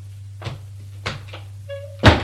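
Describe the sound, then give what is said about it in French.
A door swings shut: a few light knocks and shuffles, a brief creaking whine, then a firm thud as it closes, all over a steady low hum. “Et ferme la porte, sûre d'elle comme toujours, dans son droit comme toujours”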